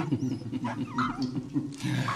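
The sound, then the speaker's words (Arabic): Kamiterio, a loyal dog, growls low and continuously for a couple of seconds in a cave, a rough, rumbling snarl, with a few faint higher whines or chirps in the background. “إنه كلب وفي.”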